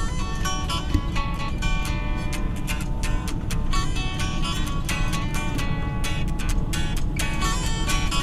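A soft rock song plays at a steady, moderate volume, with sustained harmonic tones and a light, regular rhythmic pulse running throughout, and no talking over it.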